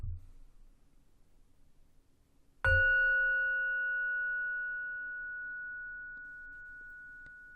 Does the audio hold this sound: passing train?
no